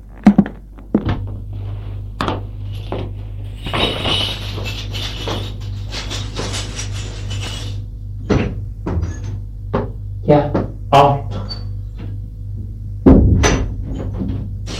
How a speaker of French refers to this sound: Au premier étage, il va ouvrir la porte de son appartement, un effet.